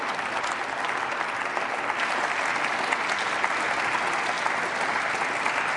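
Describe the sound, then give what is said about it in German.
Steady, moderate applause from the FDP and CDU benches in parliament at the end of a speech, an even wash of clapping that neither swells nor fades, sounding polite and unenthusiastic, with no voices standing out. “Ja, man achte auf den etwas gelangweilten Applaus aus den Reihen der FDP und aus den Reihen der CDU.”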